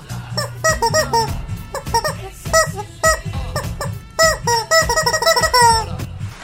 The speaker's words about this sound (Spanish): también un saludo a su mascota, el pollo del mal, a mi pollito, a ver, espérenme. Ay, aquí anda el vato este. Saluda pollo, diles unas palabras.